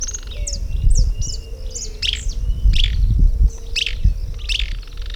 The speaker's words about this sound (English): Okay, the bird was just saying that it is Euscarthamus. It has a rusty crown.